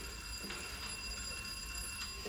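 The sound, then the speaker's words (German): A doorbell at the Büchners' door rings in a steady, unbroken buzz of high, shrill tones, fairly faint, over a low background rumble. “Ich werde noch mal bei Büchners klingeln.”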